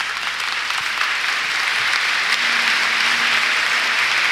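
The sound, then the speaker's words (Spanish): Sustained applause from a large crowd as Manuel Sánchez Monje is invested as the new Bishop of Santander, a dense, steady wash of clapping that holds at an even, fairly loud level throughout without any voices rising above it. “Bien, y con este significativo aplauso, don Manuel Sánchez Monje quedaba investido como nuevo obispo de Santander, sede que ocupará a partir de ahora como obispo número 18 en la relación de prelados que han pasado por esta diócesis.”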